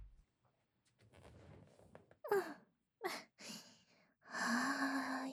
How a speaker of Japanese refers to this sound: 私たちが両側へ座り、そのまま密着し、ずーっとふーふーとお耳へ吐息を送り込んであげますので、さあどうぞ どうぞ。